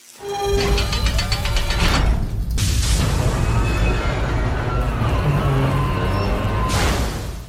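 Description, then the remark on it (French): A loud crash and explosion effect: a dense, roaring rumble that runs throughout, with sharper bursts of noise breaking through twice. A high mechanical whine fades out at the start. “Vous avez vu vous cracher, vous savez? Belle explosion du système d'ambiance, d'ailleurs.”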